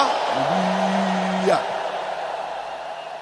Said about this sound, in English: Do I hear you shout hallelujah?